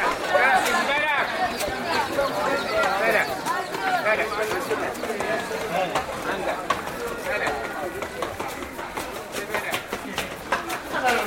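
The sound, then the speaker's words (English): A crowded narrow alleyway inside the ancient walled old city of Fez (Fez el Bali), too narrow for cars, with steady overlapping voices and chatter, donkey hooves clopping on stone among the people, and a donkey driver calling out loudly over the bustle. “So the traffic inside Old Fez is mostly people and donkeys.”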